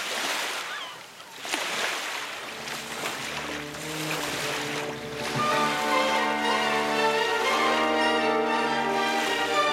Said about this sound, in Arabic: ونشطت الحركة في الميناء، وتحول الربان الهادئ إلى كتلة من الأعصاب المتوترة والصرخات المتتالية وقذائف الشتائم والأوامر التي راح يلقيها